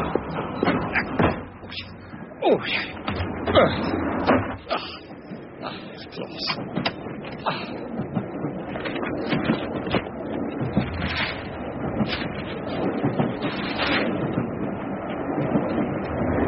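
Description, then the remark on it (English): A train, the 8:15 to Waterville, pulls away from platform 2 of a station, a steady mechanical rumble broken by repeated clunks and door-like thuds, continuous throughout. “The 8:15 to Waterville is just leaving platform 2.”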